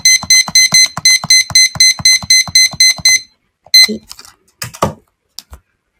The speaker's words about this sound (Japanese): それではやってまいりましょう。15分、タイマーセットします。